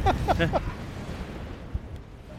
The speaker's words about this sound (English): Now, what you're experiencing now is what the Manx Electric Railway and its advertising used to describe as exhilarating mountain breezes, and they used to sell it as a plus point.